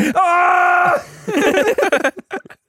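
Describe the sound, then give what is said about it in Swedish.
A voice imitates a pained scream, one loud drawn-out cry lasting about a second, followed by a quick burst of talking and short breathy sounds. “Verkligen, alltså skriker bara, också så här smärta.”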